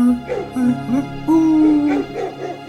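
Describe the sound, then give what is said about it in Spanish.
Dogs yelp and whine in the distance in a steady run of drawn-out, wavering cries, several calls overlapping for a few seconds, fairly loud and with no talking. “¿Sabes que yo a lo lejos me parece escuchar a algunos perros?”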